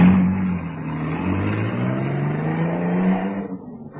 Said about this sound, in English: he fallen sergeant by the arm and dragged him into the car under the watchful protection of the Tommy gunner, who swung his weapon around the few passers-by, standing petrified by the shock of the attack, and then got into the car, which roared away.